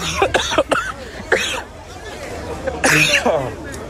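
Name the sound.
people coughing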